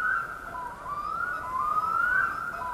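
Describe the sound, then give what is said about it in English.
A black-throated diver's long, wailing call echoing across a 14-mile-long freshwater loch close to the sea in spring, a sustained mournful tone that slowly rises and falls in pitch, steady and moderately loud with no other sounds. “It's a black-throated diver.”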